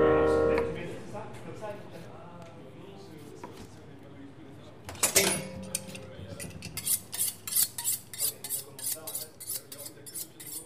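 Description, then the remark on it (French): Kitchen clatter in the kitchen of the 6x4, a venue on rue du Vieux-Saint-Louis: a low murmur gives way to a loud burst of clanging dishes, then a quick run of sharp, repeated metallic clinks of cutlery and plates. “C'est pas sur la scène, pas dans la salle, mais dans la cuisine.”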